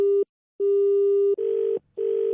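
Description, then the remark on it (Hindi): A phone line rings out while a number is being dialed again and again: four steady, mid-pitched electronic tone bursts separated by short pauses, the last two slightly buzzier, with no voices. “Number मिला रहा है भाई बार बार।”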